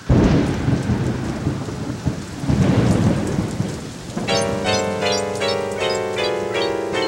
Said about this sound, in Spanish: Pues corramos a cubrirnos, porque ya comienza a llover. ¡Ya está lloviendo! ¡Corramos! ¡Nos vamos a mojar!